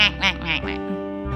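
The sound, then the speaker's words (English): A person makes a sharp, nasal, duck-like quacking vocal sound in a twang voice quality, several bright twangy bursts in quick succession, fairly loud, fading into a low hum. “And then give me your twang quality, which is really nasal, powerful, strong sound. Which is like a duck, kind of whack.”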